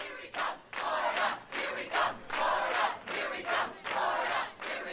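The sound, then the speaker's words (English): A large crowd at a Mitt Romney rally in Columbia, South Carolina, on Republican primary night cheers and shouts loudly, the roar surging in rhythmic waves about once per second, like a chant, with no single voice standing out. “Mitt Romney takes second, and in the past half hour, the former Massachusetts governor greeted a cheering crowd in Columbia, South Carolina.”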